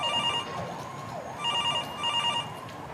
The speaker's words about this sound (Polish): O 6:30 rozdzwoniły się telefony.